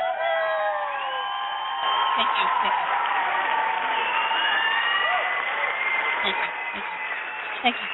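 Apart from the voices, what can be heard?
audience cheering and applause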